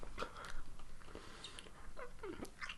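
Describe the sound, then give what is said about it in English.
Crunchy biting and chewing of a flavored hard candy, with several sharp cracks and wet mouth sounds in quick irregular succession, fairly quiet and with no talking. “I just bit into that motherfucker. I didn't even chew it.”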